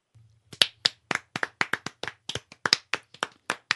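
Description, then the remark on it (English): A single person claps steadily in applause after a poem reading, about fifteen sharp hand claps in a quick even rhythm over a few seconds, with a faint low hum underneath. “is giving you a physical round of applause on that one”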